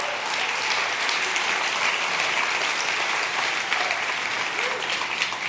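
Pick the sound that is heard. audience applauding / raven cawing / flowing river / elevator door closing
audience applauding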